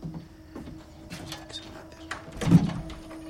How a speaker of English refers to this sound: Beto takes the lantern to the door and opens it.